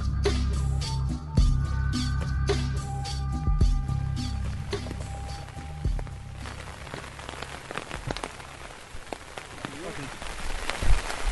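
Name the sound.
heavy rain pouring outdoors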